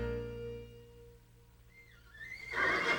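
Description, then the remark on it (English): A lingering musical tone fades out, then a single high-pitched horse whinny rises and ends in a loud, breathy snort, clear with no talking. “Meanwhile, back at the ranch, all the horses had colts when the president's helicopter landed in Elna's yard.”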